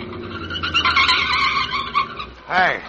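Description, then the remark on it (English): Late at night in November 1939, on a road, one speeding car swerves ahead of another and forces it into the curb. Tires squeal over rumbling engine noise for a couple of seconds, then a short, sharp wavering screech rises near the end. “Suddenly, the second swerves ahead and forces the first car into the curb.”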